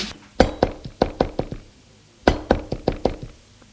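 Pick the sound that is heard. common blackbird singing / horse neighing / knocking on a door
knocking on a door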